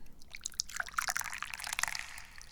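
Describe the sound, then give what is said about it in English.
Hot Yinding Che Guan Yin jade tea pours in a steady stream, a bright, splashy trickle filling a cup, with small bubbling and gurgling bursts throughout and no voices. “But before we talk about Earth Day, we gotta pour us some tea.”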